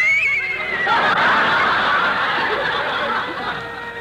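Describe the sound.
A person voices a loud, quavering horse whinny, a warbling, shaky cry that wavers up and down for a few seconds, alone.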